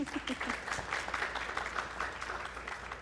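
An audience breaks into a round of applause for a guest being introduced, a dense wash of many hands clapping at moderate loudness that holds evenly for a few seconds with no voices standing out.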